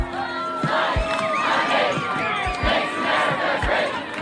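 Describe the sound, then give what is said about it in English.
A large outdoor crowd at a march in defense of science chants and shouts together, voices rising and falling in a steady rhythm, with a dull thump beating underneath every half second or so. “Enormous crowds marched across the country in defense of science.”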